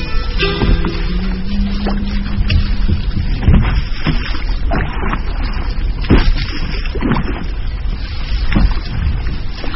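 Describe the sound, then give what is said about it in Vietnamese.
Steady, loud rushing water parting at the bow of a small boat on a broad river on a moonlit, windy night, with repeated oar strokes scraping and knocking against the boat's side in a loose, regular rhythm. A brief low hum sounds near the start. “Tiếng của chiếc rầm cạ vào be xuồng đều đều cùng với tiếng nước rẽ ào ào trước mũi xuồng nghe buồn một cách lạ lùng.”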